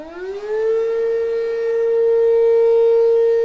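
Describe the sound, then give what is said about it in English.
A civil defense emergency siren in Tuscaloosa sounds alone during a monthly test, its tone climbing briefly before settling into a loud, steady, sustained wail with rich harmonics, no voices present. “This is a monthly test of Tuscaloosa's emergency sirens.”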